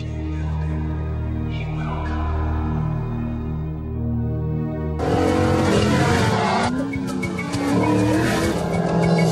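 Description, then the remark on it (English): A car engine in a 2005 Ford Mustang commercial, as the car blazes a race track into a cornfield, rumbles low and steady, then suddenly bursts into a loud, full-throttle roar that keeps snarling to the end, with no voices. “Like here, the audio you're going to hear is from a car commercial where a guy is like blazing a race car track into a cornfield in order to summon the ghost of Steve McQueen.”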